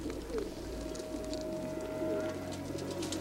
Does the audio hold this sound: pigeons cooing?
yes